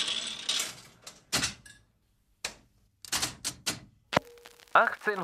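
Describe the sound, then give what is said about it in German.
A coin drops into a jukebox at a jukebox trade fair, with a series of mechanical clatters and clunks, followed by a sharp click and a sustained hum as the machine whirs into action. “Und immer wieder wirft einer eine Münze in die nächste Musikbox.”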